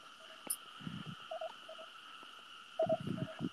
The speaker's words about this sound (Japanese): 全然関係ないんだけど、カエルバカうるさくて笑う。ゲコゲコゲコゲコゲコゲコゲコ、全部田んぼだから今隣。